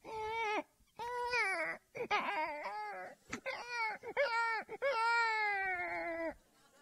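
baby crying

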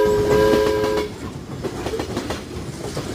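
train arriving at station

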